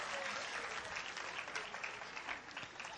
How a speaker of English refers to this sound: Give her a great clap on it. That's something.